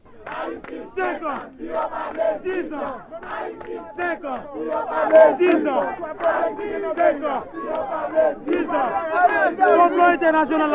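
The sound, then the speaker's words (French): A large crowd of supporters of Mr. Aristide in front of the palace shouts and chants in a dense, continuous roar of overlapping voices, loud and steady throughout with rhythmic surges of yelling. “Les nous t'ap sorti dans conférence de presse ça dans palais a, nous te contré à gros foule partisan M. Aristide là devant palais.”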